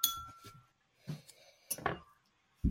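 A glass being tapped several times in an uneven rhythm, each sharp clink leaving a bright, ringing tone that fades between hits, with no talking.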